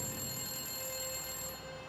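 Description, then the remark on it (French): A telephone, a call from kidnappers, rings at exactly 7 p.m. with a steady, unbroken electronic tone that holds for the whole moment, fairly loud, over a faint background hiss. “Le téléphone se mit à sonner à 19h précise quand le père d'Amy arriva.”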